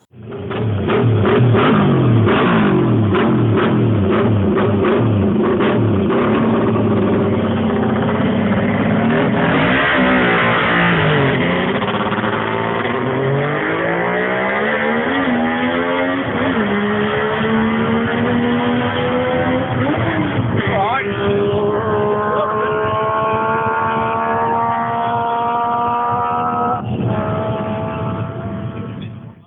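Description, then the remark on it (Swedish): A 500cc three-cylinder four-stroke MV Agusta racing motorcycle engine howls loudly and continuously, its pitch sweeping up and down through gear changes as it revs hard; recorded on the Isle of Man in 2008. “Nummer två, en motorcykel, en MV Agusta på 500 kubik. En trecylindrig fyrtaktare.”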